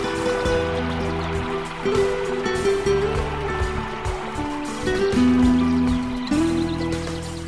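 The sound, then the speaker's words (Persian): Water flows with a steady, continuous rushing hiss that fills the whole stretch, moderately loud, with low sustained humming tones shifting pitch underneath. No one speaks. “صدای پای آب.”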